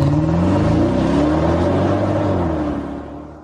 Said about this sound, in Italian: E allora questa sigla non lascia spazio a dubbi. E ormai è certo, è ufficiale, Motori e dintorni riparte oggi.